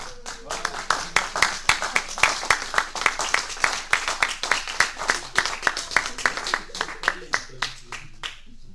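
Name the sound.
audience applause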